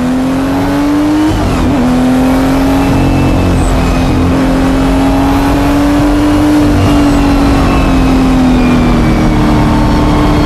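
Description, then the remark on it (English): A car engine roars loudly the whole time, its pitch climbing and dipping as it revs through gears while driving a car with a clutch and normal shift pattern, with road rumble underneath and no voices. “I'm telling him, just drive at 7 or 8 tenths.”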